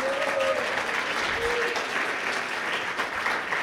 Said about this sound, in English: let's give her another round of applause, she's amazing.